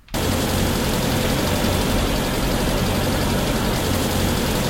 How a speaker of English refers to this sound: A car. You jump over these.